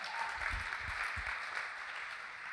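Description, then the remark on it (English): An audience bursts into steady applause, many hands clapping together in a dense, sustained wash of sound that holds without fading. “You can clap. That's okay. I like it.”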